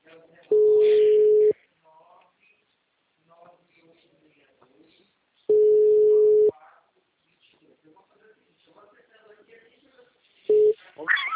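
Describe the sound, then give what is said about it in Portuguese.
A telephone ringback tone while calling: a steady, mid-pitched tone sounds loudly for about a second, pausing about four seconds between rings, three times, with faint voices murmuring in the gaps. “só tá chamando.”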